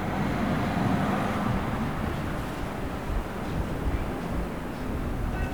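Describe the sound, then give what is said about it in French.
A bus engine rumbles steadily, a deep continuous drone with a broad wash of road and wind noise over it, holding roughly level throughout with no voices. “J'entends un bus.”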